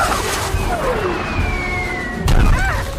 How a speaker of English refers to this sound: Fire the starboard cannon!